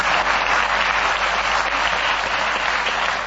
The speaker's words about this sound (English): I have 7 children. You have? A round of applause. 7 children.